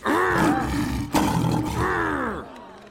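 A lion roars loudly, two long sustained bellows with rich, rumbling harmonics, briefly broken at the midpoint before the second roar fades out near the end. The lion is Alex, the lion from the zoo.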